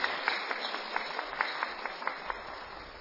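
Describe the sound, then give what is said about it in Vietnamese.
A crowd claps steadily, a dense wash of many hands with sharper individual claps poking through at a brisk rhythm, with no talking; Buddhist faithful applauding to welcome the abbot of the Trúc Lâm Yên Tử Zen monastery in Vietnam. “Tôi đề nghị chúng ta trước niềm vui hân hoan, trước niềm vui tràn đầy mong đợi hơn 700 năm nay, hãy nhiệt liệt chào mừng thầy, chúc thầy sức khỏe bằng một tràng vỗ tay mạnh mẽ.”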